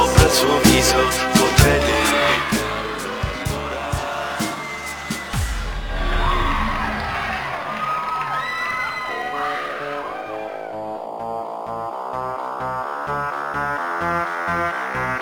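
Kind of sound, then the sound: crowd, crowd screaming and cheering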